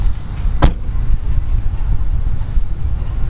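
A single sharp car door slam, as someone gets out of a car parked outside a grocery store, lands early, standing out briefly over steady low outdoor rumble and wind noise that continues afterward.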